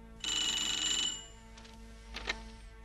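A telephone in a detective's office rings once with a bright, warbling electronic trill lasting about a second, followed by quieter clicks and handling noises.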